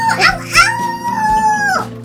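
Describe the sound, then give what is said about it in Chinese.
A person mimics a wolf's howl: two short rising yelps lead into a long, sustained wavering howl that fades out, sung loudly with no other talk. “哇，你学的好像哦，是不是？”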